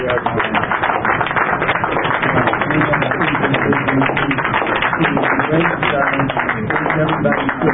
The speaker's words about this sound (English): So with that, I ask all of you to give him a round of applause.